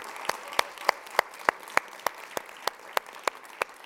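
An audience at a hip-hop event applauds a dancer's 30 years in hip-hop, falling into a steady rhythmic beat, about a dozen sharp, evenly spaced claps over a soft wash of crowd noise, with no one talking.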